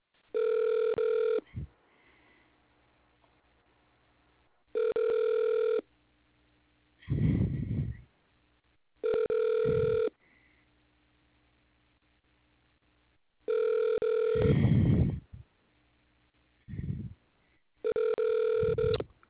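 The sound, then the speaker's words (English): A telephone ringback tone repeats in short, evenly spaced bursts over a thin phone line during a call to the Best Buy Delivery and Installation Driver Support Line, going unanswered, with a few muffled thumps and murmurs in between. “Nobody won't answer the phone.”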